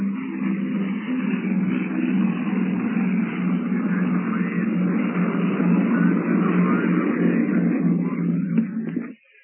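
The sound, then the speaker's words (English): A C-54 airliner, the Globster, takes off on the first leg of a round-the-world flight: a loud, steady roar of piston engines with a thick low drone and broad rushing noise sustained for about nine seconds before cutting off abruptly. “The Globster has taxied to the end of the runway, cleared with the tower, and here it comes, thundering into the sky on the first leg of this globe-circling flight.”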